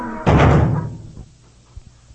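A door shuts with a single loud, heavy slam, its low boom fading over about a second, followed by a faint, soft knock.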